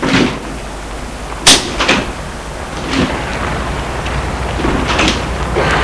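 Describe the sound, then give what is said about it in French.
Car doors open and shut a few times as people get out of a car in front of an apartment building, a sharp thunk followed by several softer knocks and clicks, spread over a few seconds against a steady outdoor background hum. “ils sortent de voiture.”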